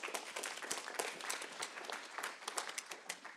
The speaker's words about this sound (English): Okay, let's give just one more round of applause.